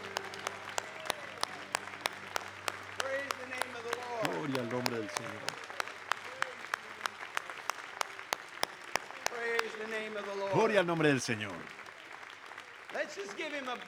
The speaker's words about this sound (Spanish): Vamos a darle un gran aplauso. Digámosles que realmente lo amamos.